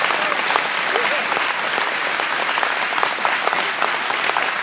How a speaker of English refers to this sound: Just give him a clap off and say, I love you, Lord. I love you.